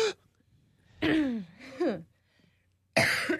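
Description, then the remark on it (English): A few dry, raspy coughs, fairly loud: two rough bursts in quick succession, a pause, then another cough starting right at the end. “But see, it's not you like can't because it's a dry cough.”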